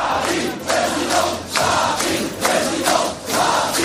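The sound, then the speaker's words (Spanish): A large crowd of Marine Le Pen's supporters chants "Marine presidenta" to welcome her, in a steady rhythmic cadence, loud broad voices rising and falling in repeated bursts of roughly one per second, with cheering woven through the chant. “Y al grito de Marine presidenta recibían los suyos a Le Pen”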